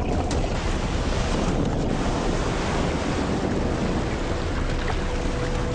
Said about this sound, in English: There are sharks patrolling off this reef, and I'm drifting fast into the breakers. I'm getting pummeled by the waves, and all I can do is hang on and hope for the best.